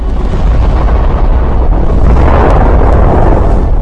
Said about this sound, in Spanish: El pañol de municiones había sido alcanzado. La explosión partió la popa del barco.